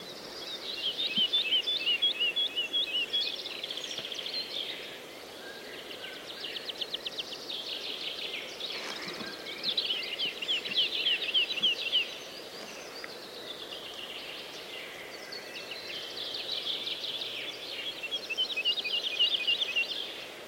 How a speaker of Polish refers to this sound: Lerka. Ulubiony ptak leśnika. Czemu? Bo lerka pojawia się tam, gdzie drzewo znika.